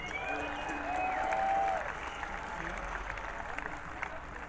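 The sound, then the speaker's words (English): Steady applause from a concert audience as the band's bass player is introduced. A dense wash of clapping swells slightly around the middle before settling, with faint crowd murmur and a few brief whistle-like tones early on. “Give a big hand for”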